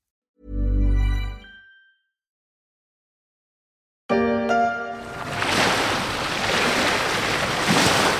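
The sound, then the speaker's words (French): A deep low thud fades into silence, then a loud, steady rush of ocean waves breaking on the shore swells up and keeps churning, with no voices. “Fini le bruit des vagues et le chant des oiseaux.”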